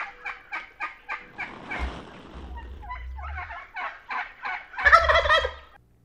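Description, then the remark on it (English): A flock of wild turkeys in a meadow cluck in a steady series of short, soft notes as they keep in touch with each other, joined by a louder burst of gobbling near the end, with no talking. “Listen for their soft clucking as they keep in touch with each other.”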